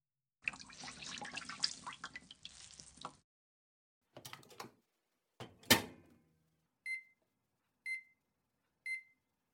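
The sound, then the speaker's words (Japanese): A tap runs for a few seconds, followed by a couple of short rustling and clattering handling sounds, then three evenly spaced electronic beeps as a microwave is set to heat a steamed hot towel, with no one talking. “それじゃ、最初は軽く蒸しタオルで。ちょっと待って。”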